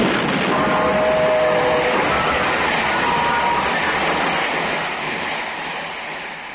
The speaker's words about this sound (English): There's a train coming